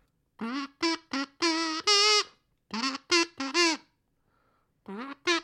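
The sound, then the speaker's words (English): A kazoo blares a string of loud, buzzy notes in short bursts, a quick run of four, then three more, a brief pause, and two final rising toots, with no talking. “the part of the show where we look back at the times we've used the kazoo in the past.”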